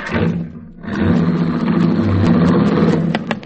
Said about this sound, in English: But Pittsburgh Markham and Cash Evans didn't even see this miracle as they ran out to her car, jumped into the front seat, and drove away.